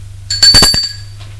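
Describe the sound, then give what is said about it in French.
A doorbell at an apartment door rings once, a bright metallic chime with a few quick clattering strikes, then the tone fades away over a low steady hum. “Sonne à la porte de l'appartement.”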